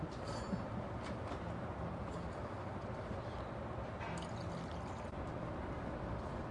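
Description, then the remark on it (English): Water being poured to drink, a steady, continuous gushing splash that holds evenly for several seconds at a modest level, with no talking. “Okay, let's have some water.”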